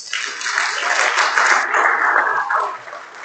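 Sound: audience clapping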